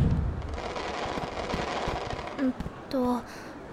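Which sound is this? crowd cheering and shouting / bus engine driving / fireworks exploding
fireworks exploding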